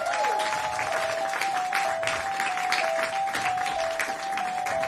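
Sustained applause from an audience, dense and steady clapping filling the whole stretch at a fairly loud level, with a faint steady tone running underneath and no one speaking.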